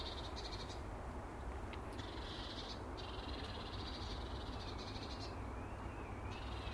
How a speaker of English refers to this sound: And it's lovely to stand here in the morning with a hot cup of tea and listen to the birds.